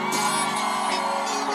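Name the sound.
audience shouting and cheering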